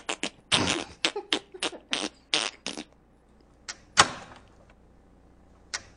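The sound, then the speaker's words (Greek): A door lock being operated as a door is locked: a rapid series of short clunks and mechanical clicks in quick succession, then a sharper clack and a last faint click after a pause, with no talking. “Ακού πως κάνει πόρτα όταν κλειδώνει. Για κλείδωσε την το... πόρτα.”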